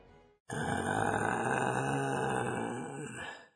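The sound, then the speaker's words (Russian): A person voices a long, loud, rumbling groan like a bear, sustained for about three seconds before trailing off, with a brief low murmur just before it. “Вспоминал медведь про сон, из груди медведя стон.”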